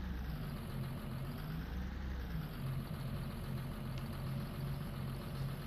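A diesel farm tractor engine idles steadily, a low rumbling drone with a faint rhythmic chug that holds constant throughout, with no voices.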